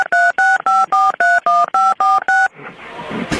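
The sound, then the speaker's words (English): Nine quick touch-tone keypad beeps as someone dials a telephone in a steady rhythm, loud, followed by a burst of hissy line noise and a brief click as somebody picks up the phone. “I think somebody picked up the phone.”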